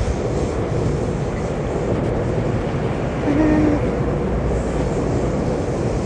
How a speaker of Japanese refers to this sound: と電車の音がめっちゃ聞こえる。